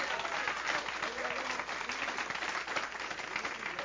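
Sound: audience applauding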